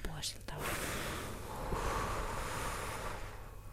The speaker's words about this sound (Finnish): Mutta tosissaan nyt sitten puhaltakaa ne siitä.